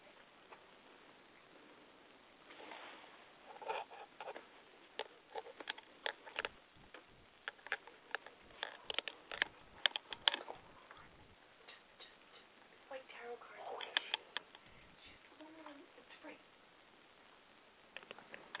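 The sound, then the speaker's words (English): A deck of oracle cards being shuffled before three cards are drawn: quick bursts of papery riffling and soft slaps, irregular clusters of crisp clicks and flutters over a quiet background. “So I'm going to just put the phone down as I shuffle the cards, and I'm going to draw three cards as I'm guided to.”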